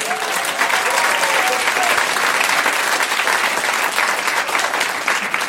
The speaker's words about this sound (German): Dann euer Applaus für die Frage von Sascha Grammel: Was ist eigentlich euer Scheißproblem?